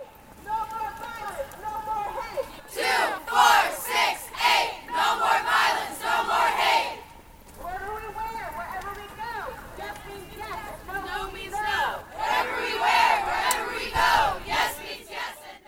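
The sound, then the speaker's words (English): A large crowd of marchers in a Revolution Against Rape march around a campus chants the protest slogan "Shatter the Silence, Stop the Violence" in unison, loud rhythmic phrases repeating in waves with short pauses between them, the mass of voices blending into a steady marching cadence. “Chants of "Shatter the Silence, Stop the Violence" rang through campus”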